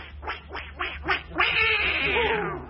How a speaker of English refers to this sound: Brenda, how your voice is changed. Oh, I'm sorry, Harold. I was just winding up one of the ducks.